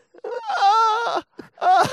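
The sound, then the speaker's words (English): A person imitates the pained whimpering groan they made while crying with pain: one long, wavering, mid-pitched moan, a short catch of breath, then a second moan starting. Loud, with no other talk. “It's a bit I was like I was literally, I was crying. I was whimpering with the pain of it.”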